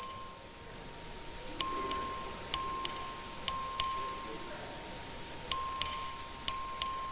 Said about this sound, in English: Members, you've heard the motion. This is a record vote. Clerk, ring the bell.